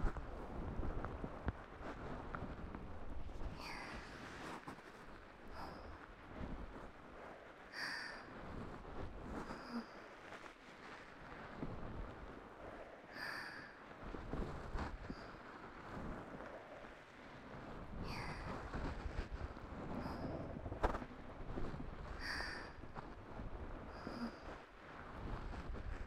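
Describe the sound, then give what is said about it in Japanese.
Steady rain pours down in a dense, even hiss, broken every few seconds by sharper, brighter patters of heavier drops. No one speaks. “本当にいい雨の音。”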